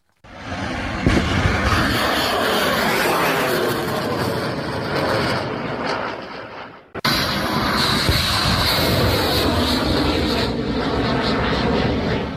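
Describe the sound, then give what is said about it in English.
A Pava cruise missile roars overhead, a loud, steady engine rush that fills the whole clip, briefly dropping and cutting out midway before resuming just as intensely. No one speaks. “That's the Pava cruise missile.”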